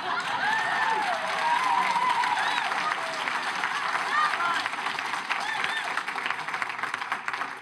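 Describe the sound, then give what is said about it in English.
A crowd breaks into loud, sustained applause, a dense steady roar of clapping that lasts the whole time, with scattered cheers and shouting voices rising above it. “That deserved a much louder clap than that.”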